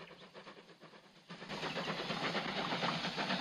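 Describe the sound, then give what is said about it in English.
A steam train puffs through sunny countryside with a steady, rhythmic puffing that swells suddenly louder and fuller, a dense mechanical rush with no voices. “A steam train puffs through sunny countryside.”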